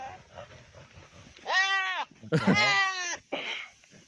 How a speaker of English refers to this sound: But goats are dirty fucking fighters. So look at these fucking goats going at it.